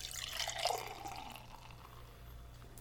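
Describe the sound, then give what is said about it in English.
Beer pours from a bottle into a glass, a splashy gush that peaks early and then tapers into a softer trickle over a low background hum, with no talking. “There's plenty of carbonation in that bottle.”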